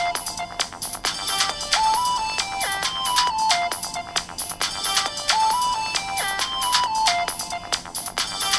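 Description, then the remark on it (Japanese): A phone ringtone for an incoming call placed from a landline, with ringer volume set to 100%, plays a repeating melodic tune of bright electronic tones, looping steadily for several seconds at fairly constant loudness with no voices present. “今呼び出し始めています。小さくなりました。”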